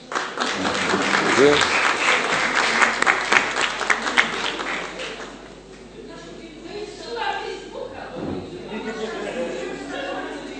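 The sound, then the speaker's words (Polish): Council members at a council session applaud to join in birthday wishes, dense steady clapping for about five seconds that then thins into scattered claps and murmuring voices. “Myślę, że te oklaski świadczyły o tym, że cała Rada przyłącza się do tych życzeń.”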